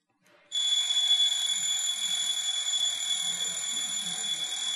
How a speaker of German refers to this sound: Ja, der Wecker, genau, richtig.